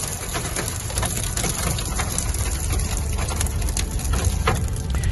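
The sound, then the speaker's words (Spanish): Volcanic ash falling on a car driving toward the south of the island after a volcanic eruption, ash having fallen for over two days: a dense, continuous patter of tiny grains, steady like light rain, over a low engine-like rumble. No one speaks. “Han pasado más de 2 días y no ha parado de caer ceniza.”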